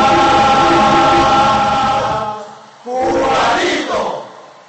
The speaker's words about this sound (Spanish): que arranca los aplausos del público, gracias, del recinto ferial.